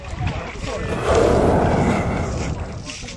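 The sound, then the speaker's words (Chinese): A stranded whale, lying exposed and nearly still while people splash water on it to keep it moist and cool, breathes heavily: one deep, rushing exhale that swells up loud midway, then eases off against a steady outdoor wash of wind and water. “刚刚的那个声音很重的那一个声音就是我们鲸鱼的它的一个呼吸声。”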